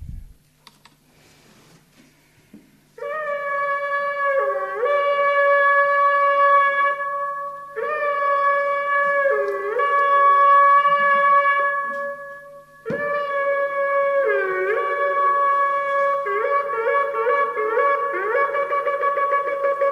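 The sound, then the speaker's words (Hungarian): A shofar, a ram's horn, sounds two kinds of signals: several long, loud, brassy blasts with upward pitch bends, separated by brief pauses, then a run of quick short notes. Faint clicks come before the blowing begins. “hogy egy kicsit halljunk ilyen sofár szót”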